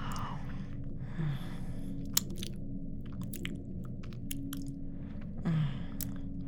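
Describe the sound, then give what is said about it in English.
Wet chewing with repeated crunchy bites and small clicks spread over several seconds, over a steady low background hum. No one speaks. “I thought I'd have just a sip, but I just had to eat you up, didn't I, darling?”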